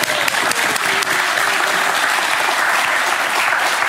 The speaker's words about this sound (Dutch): De mensen stoppen met klappen, maar ze kunnen meteen weer doorgaan.